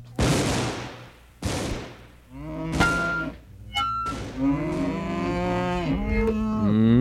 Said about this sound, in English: Sounds like a cow to me.